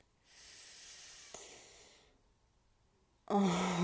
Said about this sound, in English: Oh, and that little gasp is everything.